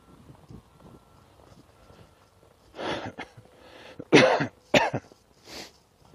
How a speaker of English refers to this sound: started coughing again. You can probably tell it woke me up a couple times in the night because it was a bubbly, so kind of a horrible bubbly cough. The good news was that it was, you know, stuff moving away, but bad news was it was waking me up.